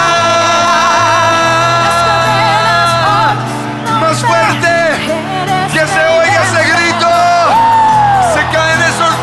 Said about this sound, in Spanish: Que se oiga ese grito de victoria.